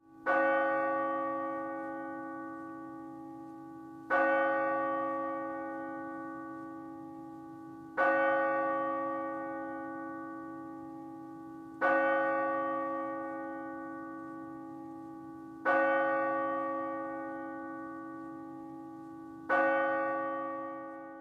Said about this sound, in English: We then see a montage of the highlights of the last 5 years of Ambassador Londo Mollari as the bells start to toll, one for each Centauri citizen killed in the attacks.